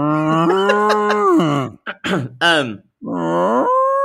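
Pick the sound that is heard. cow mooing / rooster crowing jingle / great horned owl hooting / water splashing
cow mooing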